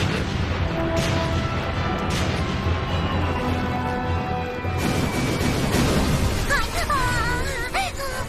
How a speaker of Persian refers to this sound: اونا بازم دارن شلیک میکنن.